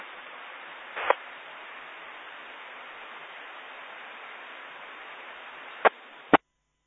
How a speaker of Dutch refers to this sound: Ik hoor dat de repeater open gedrukt wordt, maar ik hoor geen modulatie.